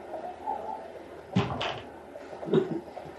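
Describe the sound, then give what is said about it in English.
The latrine door of a passenger train carriage is pushed shut with a pair of quick wooden thuds, followed a second later by another softer knock as it settles. No one speaks, and faint room noise sits underneath. “When the latrine is open, this door cannot be open. When you shut this, only this could be open.”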